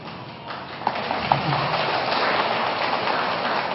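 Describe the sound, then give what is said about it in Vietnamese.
An audience of Buddhist followers breaks into applause when the head nun is mentioned, a few scattered claps at first that quickly swell into a dense, steady patter of many hands clapping, with no talking over it. “Hình như Phật tử ở đây thương ni trưởng kìa ha, hễ mình nói về ni trưởng mà quý mến cái là vỗ tay rồi.”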